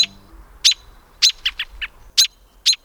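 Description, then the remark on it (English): An adult American robin gives a series of sharp, piercing alarm calls, about eight loud notes in quick, uneven bursts, with a quiet background and no voices. “Adult robins sound this alarm when their young are threatened, like by a cat.”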